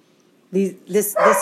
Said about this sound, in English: Our dogs are barking in the background. Don't mind them.